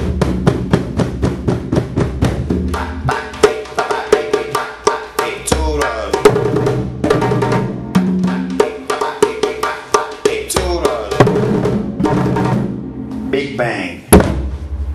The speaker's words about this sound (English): Beat the drum. Beat the drum. Beat the drum.